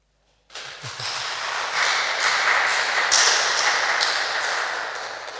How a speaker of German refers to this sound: Dazu dürfen Sie beide Hände in die Höhe halten und wenn Ihnen das gefallen hat, dürfen Sie auch gerne klatschen, das ist erlaubt.